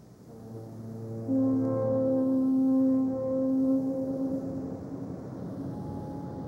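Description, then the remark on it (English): Deep, droning foghorn blasts sound across the bay, overlapping in long sustained tones, one swelling in louder after a moment and holding steady before slowly fading, with no voices present. “I wanted to take a location in the bay that outdoors that normally heard the foghorns and was visually on the bay.”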